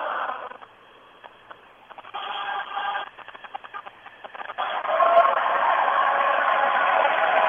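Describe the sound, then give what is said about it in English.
A large crowd at a Solidarity sing-along sings Christmas carols with adapted words in the rotunda of the Capitol, a dense blend of many voices heard over a thin, tinny telephone line. The singing is uneven at first, then swells fuller and louder for the last few seconds. “Well, as listeners can hear in the background, there's quite a crowd there singing in the rotunda of the Capitol in spite of today's implementation, or at least announced implementation of new rules for Capitol access.”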